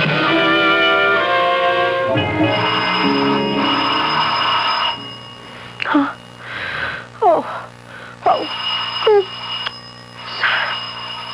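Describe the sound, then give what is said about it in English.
A doorbell rings loudly in a long, buzzing peal for several seconds as someone is at the door around noon, then a voice gives a few short startled exclamations while a faint tone lingers. “Oh, who could be ringing the bell at this hour?”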